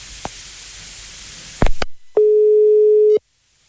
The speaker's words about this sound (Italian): E suona il telefono, suona, vediamo se risponde. Non risponde, non sento nulla, suona il telefono, niente. Riproviamo ancora.